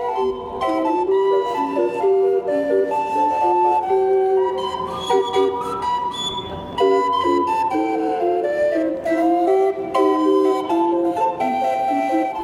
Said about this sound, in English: You're listening to the pipe organ on the old paddle wheeler Natchez, docked in the river here, that you can take a tour on. You can hear that organ all over the French Quarter.